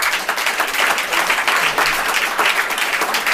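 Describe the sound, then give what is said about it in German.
An audience applauds steadily, a dense wash of many hands clapping at fairly constant loudness with no voices standing out, voting by applause for the fourth lever, cultural change in companies or in society. “Also recht spannend für mich war der 4. Hebel, so der stärkst klatschende.”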